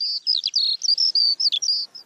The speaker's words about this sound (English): Birdsong, I think, is one of those things that accompanies us as gardeners when we're going about our business in spring, when we're digging, when we're sowing, when we're planting. It's birdsong that is the serenade around us.